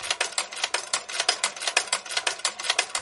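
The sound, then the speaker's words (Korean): A sewing machine runs steadily in Yadi's clothing alteration shop in a residential area of Charlottesville, Virginia, its needle producing a rapid, even train of mechanical clicks and taps. No voices are heard. “가게 문을 열고 들어가니 쉼없이 움직이는 재봉틀 소리가 반갑게 맞아줍니다.”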